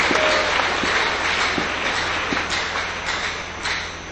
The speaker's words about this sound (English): Clap your hands now, church. That's the joy of the Lord.